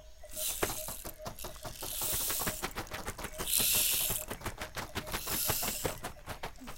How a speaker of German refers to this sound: Es regnet in Strömen.